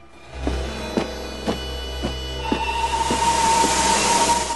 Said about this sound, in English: A steam train pulls into a station at night. Lots of soldiers and sailors in uniform disembark onto the platform.